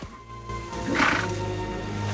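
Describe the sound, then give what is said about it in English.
A fallen horse rights itself after a sandstorm, letting out a rough, strained whinny about midway through, fairly loud, over a steady low rumble of background noise. “A fallen horse rights itself.”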